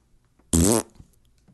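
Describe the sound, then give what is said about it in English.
A single loud, brassy fart sound lasting about a quarter second, with a buzzing, slightly wavering pitch, set against near silence before and after. “Yes, one of those was the sound of a fart.”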